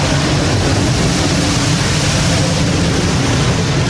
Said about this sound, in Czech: Tak ten zvuk, který jste teď slyšeli, tak to bylo zapálení právě vnitřku těch kontejnerů.